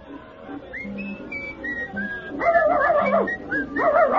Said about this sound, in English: Oh, so that's why you were barking.